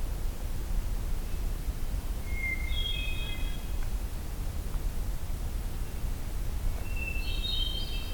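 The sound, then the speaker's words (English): Two fluting phrases of hermit thrush song ring out a few seconds apart, the second pitched higher, over a steady background hiss like wind or running water. “It's a very healthy population of hermit thrush in here.”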